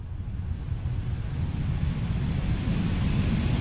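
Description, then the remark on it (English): A heat pad unit blowing air: a steady, low, rumbling whoosh that holds constant and grows slightly louder over a few seconds, with no voices. “So that's blowing air into...”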